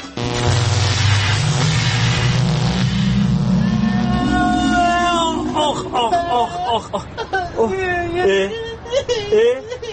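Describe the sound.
A time machine powers up with a loud, steadily rising whirring whoosh that swells for several seconds, then fades as a whimpering, crying voice takes over.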